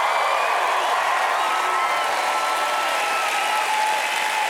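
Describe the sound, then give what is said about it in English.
An audience erupts in a 4.5-second praise break of loud, sustained applause and cheering, a dense, steady wash of clapping and shouting voices that holds at full strength for the whole few seconds without a break. “Somebody give him a 4.5-second praise break.”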